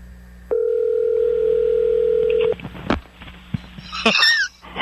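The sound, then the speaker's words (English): A steady, loud telephone dial tone hums for about two seconds, then cuts off into a few short dialing clicks and beeps, ending with a brief warbling high-pitched chirp, as a radio show phones golfer Tiger Woods. “let's give Tiger Woods a call”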